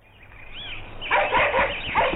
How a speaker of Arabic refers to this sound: وفي هذه الأثناء أيها الأحبة، لما شاهد الكلب أن رياضا يتجه لإنقاذ صاحبه صفاء، ركض الكلب أيضا ووصل قبل أن يصل رياض، وبدأ الكلب ينبح بشدة. خاف الولدان وهرب فورا.